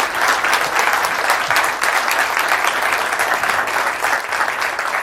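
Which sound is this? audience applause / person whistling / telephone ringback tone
audience applause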